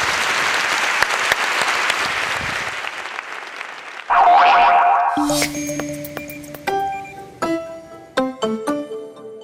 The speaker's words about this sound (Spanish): Un aplauso para ellos.